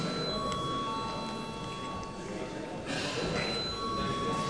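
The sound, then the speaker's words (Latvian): A parliamentary voting bell rings steadily and continuously, a loud electric tone that never pauses, with a low murmur of voices and room noise underneath, rung at the chair's request as deputies call for a vote on a budget committee proposal. “Deputāti, uzstājas balsojumu, lūdzu zvanu.”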